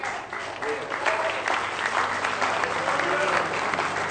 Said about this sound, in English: Hallelujah. Oh, give him a real good hand clap of praise. He's worthy. Amen.